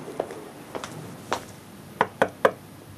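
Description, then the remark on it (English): Knocking on a neighbour's door during lockdown: three soft, widely spaced raps, then a quicker, louder burst of three knocks close together, with no voices and only faint background hiss. “We decided to just go and, you know, knock on neighbours' doors and see what their immediate needs were.”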